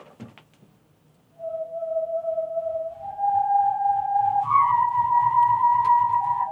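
A multicolored hosepipe whirled overhead like a lasso gives steady whistling tones that step upward in pitch, from a low hum to a higher note, over a faint whooshing rumble.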